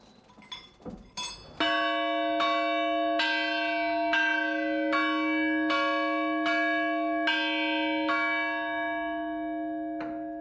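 A large church bell rings, struck in a steady rhythm about once a second, its deep resonant tone humming and overlapping between strokes after a few clunks at the start.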